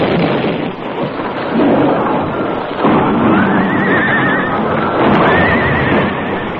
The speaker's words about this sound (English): Trigger Taylor left one of his men to fire an explosive charge beneath the Crazy Creek Bridge. Sagebrush timed the explosion just right. The Lone Ranger and Tonto were on their horses in the middle of the bridge when the air was shattered by a blast.